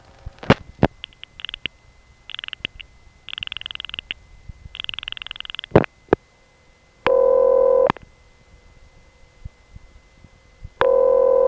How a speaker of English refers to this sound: These ringtones were different from what I had ever heard before. For one thing, the ring was always very short, half the length of a normal ring, and it repeated more frequently.